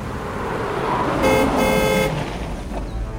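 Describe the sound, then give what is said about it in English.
A car rumbles as it slows down approaching a magnificent gateway, its engine noise steady and low, with a sustained horn toot sounding briefly in the middle. No voices. “The car slows down as it approaches a magnificent gateway.”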